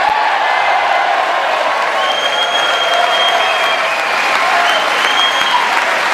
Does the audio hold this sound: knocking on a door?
no